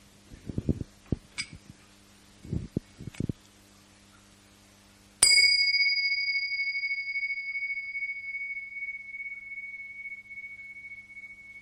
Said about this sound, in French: Je vais commencer par un petit son de cloche afin de nous inviter à commencer ensemble dans une conscience partagée.